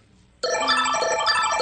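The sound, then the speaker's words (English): A bright, ringing game show bell signal bursts in suddenly after a brief quiet moment and sustains loudly with a rich, buzzing metallic tone, signalling that the game is in sudden death again. “That sound indicates we're in sudden death again.”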